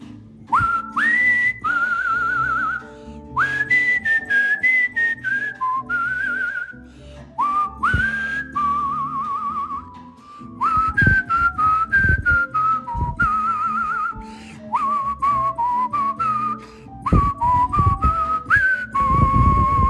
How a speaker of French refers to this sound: Et on commence tout de suite avec un beau concert de sifflage pour René Bourassa qui me demande de siffler